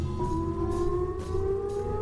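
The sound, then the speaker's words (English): A civil defense air raid siren wails steadily, one sustained droning tone whose pitch creeps slowly upward across the whole stretch, loud and unbroken with no voices. “It's almost like a nuclear raid sound, isn't it?”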